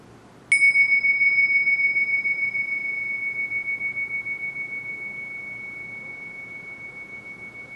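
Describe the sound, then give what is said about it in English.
A single meditation bell is struck once to begin a 10-minute guided sitting meditation, ringing out with a clear, pure tone that hangs in the air and slowly fades with a gentle wavering shimmer, heard alone. “this will be a 10-minute guided sitting meditation, beginning with the sound of the bell.”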